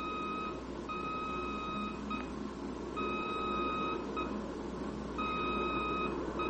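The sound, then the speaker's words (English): Aircraft radio range A and N beacon tones, heard by a pilot banking toward the beam on a low-angle approach: a steady beeping tone repeats in long bursts with brief breaks, over a constant background hiss of static. No one speaks. “And as you bank toward the beam, trying to hit the thin line where the A and N signals merge into one highway, you hear...”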